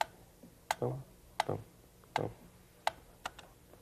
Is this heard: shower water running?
no